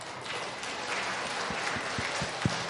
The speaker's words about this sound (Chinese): 那我首先呢，我邀请今天你第一次来到我们中间的新的朋友，我请你站立起来，我们要用最热烈的掌声欢迎你们的到来。